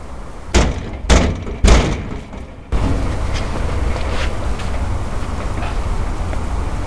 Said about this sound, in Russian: Я постучал в дверь, кто-то кричит через дверь вызвать полицию.